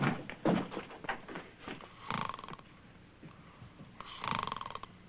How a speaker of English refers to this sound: Fortunately for you, he's there. He snores beautifully. He makes a lot of noise for a sick man. It's not his fault. Acoustics in here are terrible.